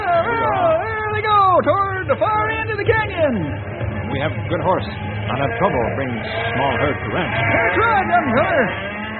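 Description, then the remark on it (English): A herd of cattle being driven in, lowing and bawling together, dozens of overlapping calls rising and falling without pause, loud, with a steady rumble of movement underneath. “Those cattle Grey Wolf and Stumpy are bringing in.”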